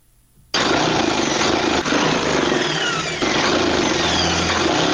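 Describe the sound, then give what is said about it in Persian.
A sewing machine in a tailor's shop in the fifth district of Kabul starts up abruptly and runs continuously, sewing Eid clothes for a customer, its motor whirring and clattering steadily with brief slight dips in pace, no voices present. “با ماشین خیاطیش در حال دوختن لباس عیدی برای یکی از مشتریانش در شهر کابل است.”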